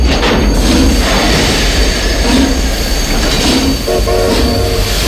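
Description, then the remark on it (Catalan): A train brakes suddenly, a loud continuous rumble of rolling wheels with metallic squealing that rises near the end, dominating, with no voices. “El tren ha frenat de cop”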